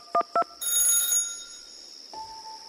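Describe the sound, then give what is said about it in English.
A telephone rings for a 911 call to the Suffolk County Police Department from Amityville, Long Island, New York, in November 1974: two short electronic beeps, then a bright, buzzing ring lasting about a second, followed by a steady mid-pitched line tone humming alone with no voices. “A man makes a 911 call to the Suffolk County Police Department.”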